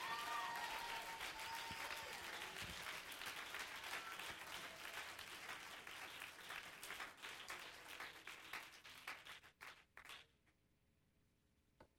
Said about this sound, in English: Let's clap our hands. Let's love the Lord.